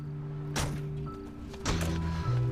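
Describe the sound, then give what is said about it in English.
Two solid car doors thunk shut about a second apart as two people park outside a warehouse and get out of a sedan, over a low steady engine-like hum with no talking. “Liz and Monica park outside a warehouse and get out of the sedan.”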